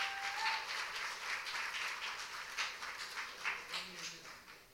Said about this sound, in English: big round of applause